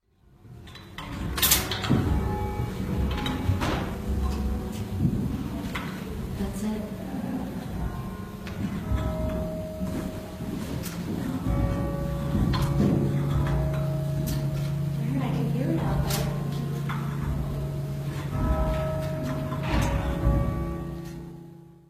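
The Shandon church bells struck one after another by big sledgehammers hooked to pulleys, worked by someone below pulling cords, ringing out a slow tune of bright, overlapping tones whose hum lingers between strikes, holding a steady loudness throughout.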